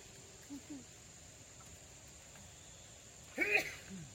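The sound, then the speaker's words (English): A single short sneeze bursts out near the end, moderately loud against a quiet background hum, with a couple of faint soft sounds earlier. “Bless you.”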